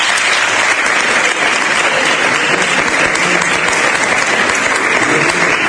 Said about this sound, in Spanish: Podéis darle un aplauso incluso, si queréis.